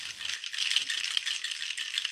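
A drink that had first been stirred is shaken again in a cocktail shaker to chill it: a dense, bright rattle of ice clattering inside in quick continuous rhythm, fairly loud and steady throughout with no voices.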